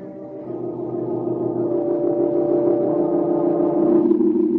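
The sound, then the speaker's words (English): A rented car's engine hums steadily as it turns off the road and slowly approaches an old deserted house: a low droning rumble that holds even and rises slightly toward the end, with no voices present. “They turn off the road and slowly approach the old house.”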